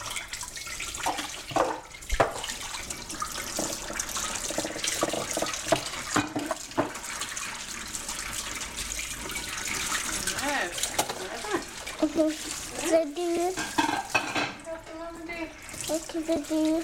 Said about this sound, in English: Help Grandma, dear. You helping Grandma do the dishes too?